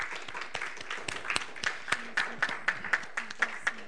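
A small audience claps in uneven, scattered bursts of sharp hand claps at moderate loudness, with faint voices murmuring underneath.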